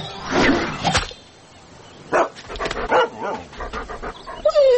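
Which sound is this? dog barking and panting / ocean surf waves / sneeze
dog barking and panting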